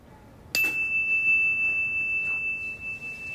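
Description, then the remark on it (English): A single bell is struck once for a mindfulness listening exercise, giving a clear, high ringing tone that sustains and slowly fades away over a few seconds against quiet room noise. No one speaks. “A bell. We're gonna listen. And when the bell stops, when you can't hear it anymore, raise your hand.”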